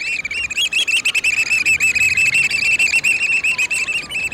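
Black oystercatchers give loud, rapid whistling calls in a continuous piping series, sharp repeated notes tumbling over one another, with no voices present.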